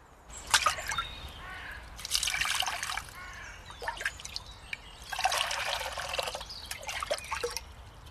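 A biologist pours stale water from flower vases through a tea strainer, checking for mosquito larvae, on a sunny afternoon at Melaten cemetery in Cologne; the water splashes and trickles in uneven bursts, a few seconds of pouring followed by pauses and drips, with no one speaking.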